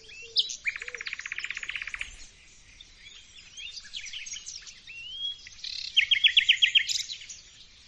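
common nightingale singing

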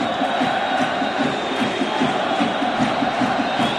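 stadium crowd chanting

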